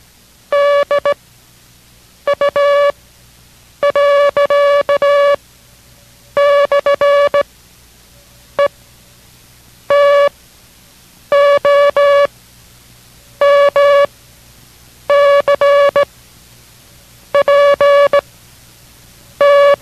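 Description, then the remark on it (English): Morse code practice characters keyed on a single steady, mid-pitched tone, sent in reverse order beginning with the word dog and including two improperly sent characters, in clusters of short and long beeps separated by brief silences. The signal is loud and clear, with no voices. “The same thing will be sent now, but in reverse order, beginning with dog and going to the left.”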